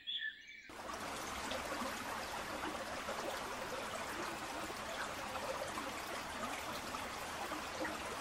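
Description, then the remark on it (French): A steady rush of flowing river water fills the scene, a broad continuous babble, with faint bird chirps mixed in and no talking. “Marcel marche jusqu'à la rivière pour mettre de l'eau fraîche sur sa bosse et calmer la douleur.”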